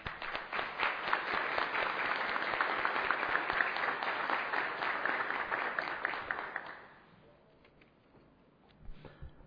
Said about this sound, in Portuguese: vou bater uma salva de palmas para a Karine e Josimar